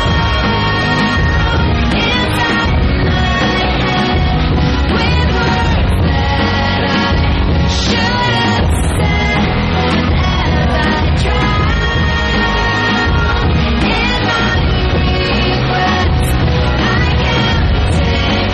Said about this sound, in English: That is from the number one record in America as we speak. The album is called …